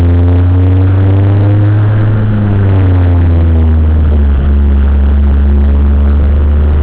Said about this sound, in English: I mean, the interior trim is rattling. You have this horrible vibration noise. But I mash in the clutch around the turn and it's pretty quiet. But every little bit of vibration from the engine is getting transmitted to the passenger compartment.